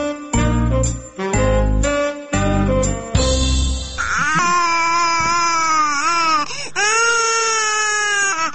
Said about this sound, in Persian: جان جان، گریه نکن، چرا که گریه میکنی؟ البته که تو اینجاش درد میکنه.